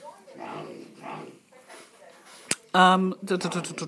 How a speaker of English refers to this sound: We've got dogs.